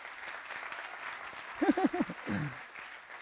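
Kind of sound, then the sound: crowd, applause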